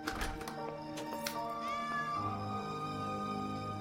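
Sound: cat meowing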